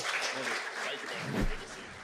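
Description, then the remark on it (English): Audience applause for Coach Buzz Williams: a dense, steady wash of many hands clapping, holding at an even loudness for about two seconds with a brief swell just before the end. “Big hand for Coach Buzz Williams.”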